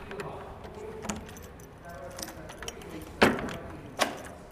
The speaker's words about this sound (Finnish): Kävellään pihan poikki ja avataan jälleen yksi iso ovi.